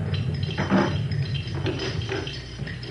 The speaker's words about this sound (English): That crunchy, bumpy noise you may have heard was our anchor on the way down.